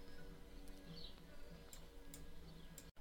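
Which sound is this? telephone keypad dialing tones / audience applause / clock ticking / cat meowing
clock ticking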